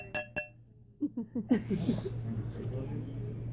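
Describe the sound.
Two quick, bright clinks of champagne glasses, brought by a waiter, ring out close together near the start in a toast, followed by soft murmuring voices and faint table clatter.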